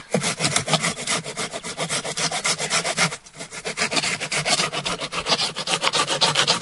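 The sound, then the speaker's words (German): A hand saw rasps steadily through a wooden branch laid on a tree trunk, in quick, regular back-and-forth strokes, loud, with a brief pause near the middle before the sawing resumes. “Wir haben das jetzt auf den Stamm gelegt, genau. Und dann ich säge jetzt einfach mal los.”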